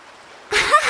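A sudden burst of splashing water cuts through near silence, a noisy slosh lasting under half a second, as someone churns the surface while swimming in the sea.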